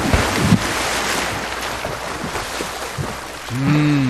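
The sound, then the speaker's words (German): Steady sea surf rushes and washes continuously with windy noise, a brief splash of someone jumping into the water after a run-up on the beach near the start, and a short low tonal hum rising at the end. “Badehose an, ein bisschen mit dem großen Zeh im Wasser vorfühlen, am Strand Anlauf nehmen und...”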